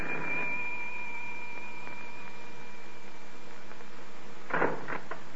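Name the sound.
front door bell ringing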